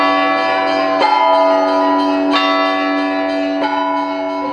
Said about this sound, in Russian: В России на Пасху весь день во всех храмах звонят колокола.